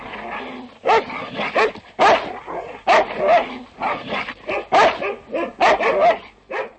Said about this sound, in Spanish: Acto seguido, el noble ordenó que los criados expulsaran a los inoportunos mensajeros del palacio, azuzando contra ellos feroces perros de caza.